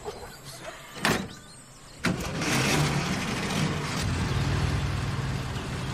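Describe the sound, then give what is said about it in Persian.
A car door thuds shut, then an engine turns over and settles into a steady rumble as someone who has got into the car drives away. No one speaks. “سوار ماشین میشه.”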